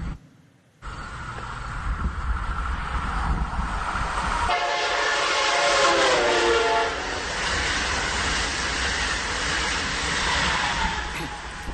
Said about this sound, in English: Did everybody hear the horn, the train horn? Okay. The question for you is, in the concept of cosmology, what is the true pitch of the horn? Was it the higher pitch or was it the lower pitch? What's the true pitch? The answer is both.